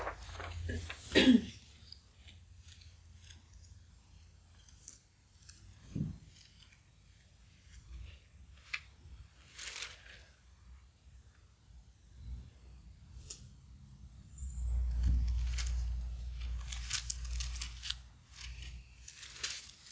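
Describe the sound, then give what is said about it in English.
Bible pages being flipped and rustled, with crisp, papery bursts coming in irregular spurts over a quiet background and a low handling rumble toward the end. “I'm hearing pages rustling with their minds.”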